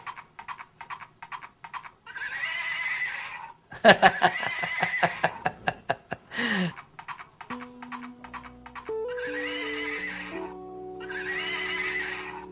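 A toy rocking horse plays a brisk recorded clip-clop of hooves and a loud whinny, then a simple tinny electronic tune starts under more trotting. Close and clear, with no one talking.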